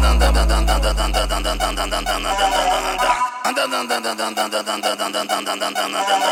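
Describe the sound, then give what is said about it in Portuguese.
A raspy, buzzing 160cc motorcycle engine revs over a heavy bass beat, cutting out briefly midway before the throttle pulses back in rhythmic bursts. “É o barulho da 160 cantando.”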